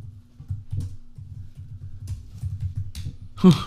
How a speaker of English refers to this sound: Sorry, all that typing, guys.